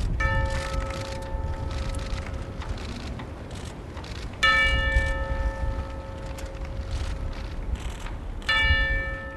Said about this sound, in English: A member of the Marine Band struck a long silver chime with a hammer to mark the beginning of the moment of silence.